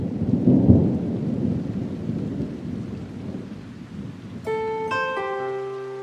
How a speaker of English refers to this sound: So we're back into, now we're back into white rain. What I call white rain on the radar, you see.